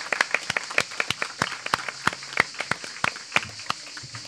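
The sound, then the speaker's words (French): An audience applauds with a steady patter of sharp, crisp claps layered over a softer hiss of many hands, moderately loud throughout with no voices. “j'aimerais qu'on l'applaudisse quand même”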